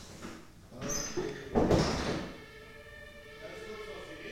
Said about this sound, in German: Die Tür muss noch auf. Und hier die Tür zu.